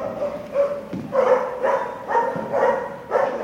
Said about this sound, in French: Une semaine dans leur vie, nous passons cette semaine avec des chiens, pas n'importe lesquels, les chiens de la police nationale, premier épisode aujourd'hui, là où tout commence, à Canécluse, en Seine-et-Marne, où ils sont formés.